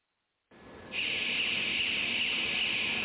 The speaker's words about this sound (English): This alarm sounds about every 3 minutes to remind workers on the zigzag-shaped production line that it's about the time they finish one relay.